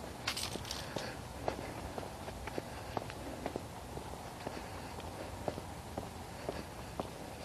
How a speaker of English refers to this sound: Hiking along.